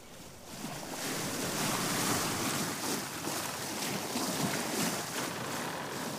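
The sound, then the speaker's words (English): Rough sea surges and wind rush steadily around a sailing ship, with the wooden hull creaking faintly beneath the loud, continuous roar. No voices. “A silence broken by the creaking of timbers and the exultation of the sea and wind.”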